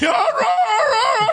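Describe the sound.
A human voice imitates an odd, strained dog bark, like a dog not really barking but just making noise: one continuous wavering, whining yelp lasting over a second, fairly loud, with no other sounds around it.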